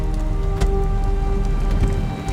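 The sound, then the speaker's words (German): Hail, sleet and snow drum steadily against a window pane during a full storm, a dense, continuous patter punctuated by a few sharper hits, fairly loud over a low, constant hum. “Das waren keine Regentropfen, was da gegen unser Fenster trommelte. Schnee. Graupel, Hagel, echtes Sauwetter.”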